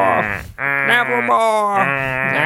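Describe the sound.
A person imitates a raven with their voice: three loud, drawn-out, nasal croaks that waver in pitch like a bleat, separated by brief pauses.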